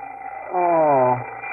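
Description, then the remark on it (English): An alarm clock goes off in a single loud, buzzy ring lasting about half a second, its steady tone sagging slightly in pitch before cutting out, over faint background hiss. “Oh, the alarm clock. Must be 8 o'clock.”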